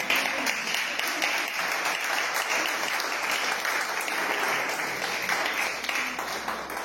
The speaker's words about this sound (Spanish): Señor, se merece todos los aplausos.